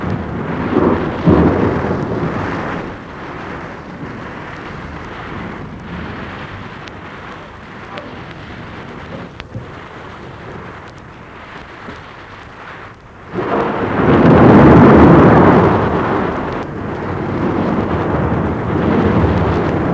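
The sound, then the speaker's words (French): A storm rumbles with steady rain and wind, then after a lightning flash a loud thunder clap bursts in and rolls on for several seconds before easing back into the downpour. “Un éclair, un coup de tonnerre et...”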